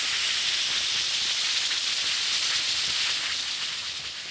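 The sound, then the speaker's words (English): One or two Alka-Seltzer effervescent tablets fizz steadily in a glass of water, a continuous bright hiss of tiny popping bubbles that holds level and fades slightly at the end, with no voices. “To take Alka-Seltzer, simply drop one or two tablets into a glass of water like this. Listen to it fizz.”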